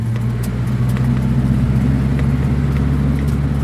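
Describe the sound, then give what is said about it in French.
A vehicle engine is started and runs steadily as the group sets off, a loud, deep rumbling hum with a constant throb, sprinkled with a few faint clicks and rattles, and no voices. “Eh bien, moteur en route, on y va.”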